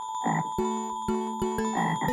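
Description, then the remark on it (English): A frog croaks repeatedly in quick, uneven bursts, loud, over a steady tonal background with no voices. “It's a frog!”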